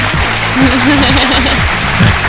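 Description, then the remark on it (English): A steady burst of loud applause for the listeners, thanking them for 10,000 downloads in 2013. It is dense and continuous for a couple of seconds, with some cheering voices mixed in underneath. “So, that applause is for you.”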